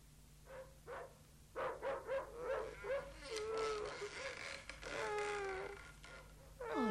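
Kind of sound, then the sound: animal, dogs barking at night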